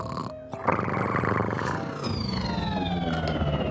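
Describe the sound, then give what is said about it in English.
A loud, steady spaceship sound effect: a deep rumbling roar with a pulsing hum, joined partway through by thin, high whining tones that slowly glide downward. No one speaks. “I've never heard a cat snore that sounds like a spaceship. Wait a minute, that's a real spaceship!”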